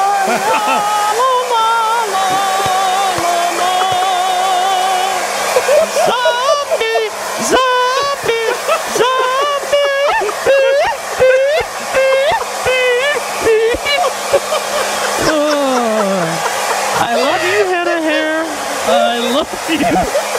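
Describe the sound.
A hair dryer blows steadily as a constant airy roar with a low hum while someone dries their hair, and people talk over it.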